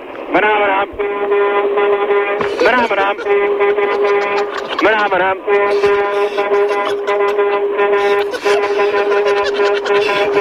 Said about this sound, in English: I've got an air horn for you, mate.